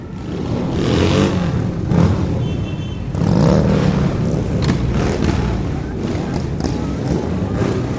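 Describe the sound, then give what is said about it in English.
Motorcycle engines of a motorcycle clinic's entry rumble and rev in a festival parade in Charlestown, throttle surges swelling and easing over a steady low roar, with faint indistinct voices mixed into the outdoor noise. “The next participate approaching will be the Down and Dirty Motorcycle Clinic.”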